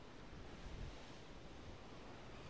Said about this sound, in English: So I suppose it's time to hold on to your hats as we brave the windy conditions and explore Toftgate Limekiln and the Coldstones Cut.